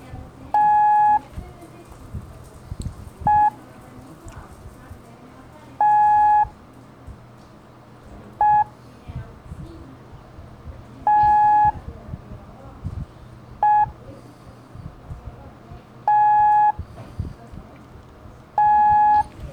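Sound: morse code tones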